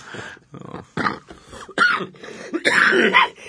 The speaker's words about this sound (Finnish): Anteeksi. Yskin.